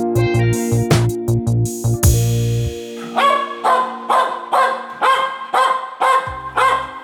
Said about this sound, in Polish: Przede mną powitał Was Henio, mój pies.